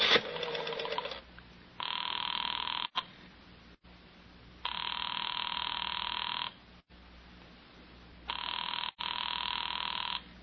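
A telephone rings over the line in three steady, buzzing bursts separated by short pauses, heard through a handset after a brief clatter, with no one talking.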